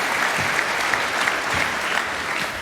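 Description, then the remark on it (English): Sustained applause from an audience welcoming a speaker, an assistant professor at Eurecom, to the stage for a talk on breaking and fixing Bluetooth, a dense wash of clapping hands holding steady at a fairly loud level throughout, with no voices breaking through. “So let's unlock the stage and give him a warm round of applause, and let's hear what he does.”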